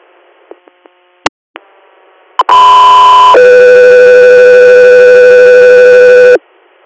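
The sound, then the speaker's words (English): A few faint clicks, then loud, steady electronic radio dispatch alert tones for Echo 3 Air: a short high tone that shifts into a long, sustained multi-pitched tone lasting several seconds before cutting off abruptly. “Echo 3 Air, stand by for tones.”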